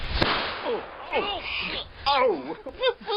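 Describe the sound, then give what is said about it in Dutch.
Two sharp, snapping firecracker bangs, one early and one about two seconds later, with voices talking and exclaiming in rising and falling tones around them. “Er ontploft iets. Een rotje of zo.”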